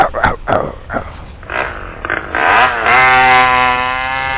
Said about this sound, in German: Wir brauchen mehr Power. Mehr Power? Cookie, bring mir die Kettensäge.